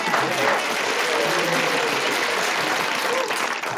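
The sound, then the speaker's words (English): Steady audience applause, a dense wash of clapping that holds at an even, fairly loud level throughout, with no voices standing out above it. “Big round Thank of applause.”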